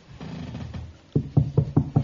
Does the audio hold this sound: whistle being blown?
no